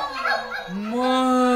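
A puppy's high yelping bark, then a drawn-out, rising whine that holds steady to the end, loud with no talking.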